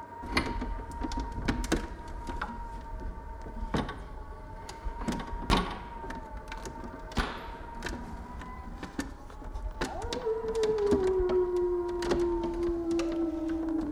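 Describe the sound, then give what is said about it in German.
Wolves howl in long, drawn-out tones as they come closer, with one clearer howl sliding slowly downward toward the end, over scattered faint clicks and knocks and no talking. “Wir müssen bald verschwinden. Die Wölfe kommen näher.”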